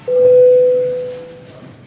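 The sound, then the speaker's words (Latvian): A parliament chamber vote bell, rung at the chair's request before deputies vote on the 18th proposal of the legal affairs committee, sounds as one steady, mid-pitched electronic tone, loud at first, then fading out over about a second and a half, with no voices. “Lūdzu zvanu.”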